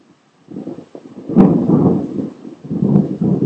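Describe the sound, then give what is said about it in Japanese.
Loud, crackling thunder from a thunderstorm with brief lightning flashes rumbles for several seconds, with sharp cracking bursts riding over a deep, rolling roar that swells and fades without anyone speaking. “なんかこっちの方なんか、音だけバリバリやばくて光るのは一瞬だからなぁ。”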